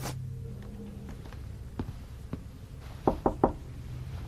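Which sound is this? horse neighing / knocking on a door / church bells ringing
knocking on a door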